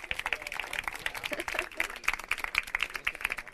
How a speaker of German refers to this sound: Ich würde nochmal in Abwesenheit der Stipendiaten, bitte ich Sie nochmal um einen Applaus für die Stipendiaten, auch wenn sie nicht da sind.